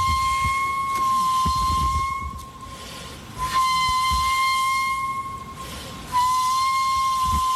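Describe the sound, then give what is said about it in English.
Two walruses whistling back and forth at each other: sustained, steady high whistles that stop and restart about every three seconds, each long note loud over a low rumbling background. “In case you missed it, at the end of Random Facts, this sound, these are two walruses whistling back and forth at each other.”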